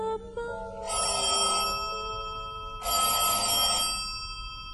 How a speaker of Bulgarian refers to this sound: Хотелско фоайе. Вечер. Късно е. Отначало се чуват улични шумове, после става тихо и се чува биенето на стенен часовник, а след това и извъняването на телефон.